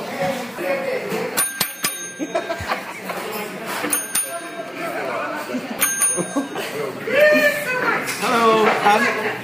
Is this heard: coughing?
no